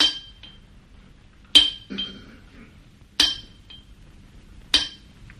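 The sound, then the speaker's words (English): Sharp chipping strikes against hard mineral deposits, four evenly spaced clinking taps about a second and a half apart, crisp with a brief ringing decay, no voices. “If I can chip away some of these deposits, we can see what it's made of.”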